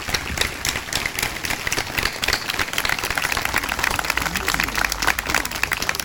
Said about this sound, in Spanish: Así que le vamos a brindar un aplauso a Don Nino Dagatti, donde quiera que esté, y seguramente nos está acompañando.